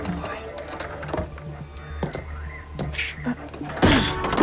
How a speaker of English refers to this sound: Open the door.